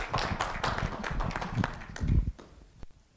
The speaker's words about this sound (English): a big round of applause.